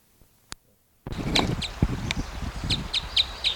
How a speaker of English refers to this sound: Here's the female's flight call. Female there.